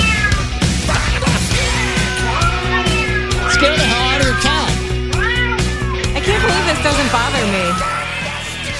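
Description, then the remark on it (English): Many cats meow over one another in a loud, continuous chorus, rising and falling cries overlapping for the whole stretch above a steady low hum. “But I can just listen you to just cats.”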